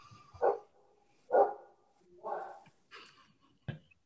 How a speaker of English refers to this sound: I believe the dog has a comment. Yes, yeah, I think so.